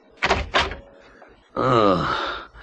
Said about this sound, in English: it seemed to me that the lemon had scarcely touched the pillow before I was aroused out of the dreamless by the sound of the door opening.